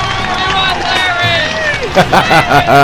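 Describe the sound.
A loud, close crowd cheers and shouts, many voices overlapping, with clapping bursting through in the last second.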